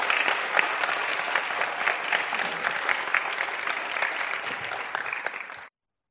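An audience claps steadily, a dense wash of many hands at a fairly constant loudness, before the applause fades and cuts off near the end.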